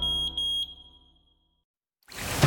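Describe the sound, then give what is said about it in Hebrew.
A shrill, high-pitched smoke detector alarm sounds loudly with a few quick pulsing beeps, then rings out and fades into silence before an unrelated burst of noise starts. “בשריפה או שגלי העשן יאיר אתכם, או שלא תתעוררו בכלל.”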